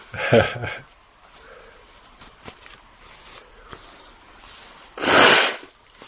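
human body sound, nose blowing

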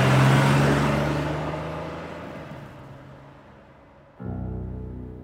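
vehicle, car speeding off

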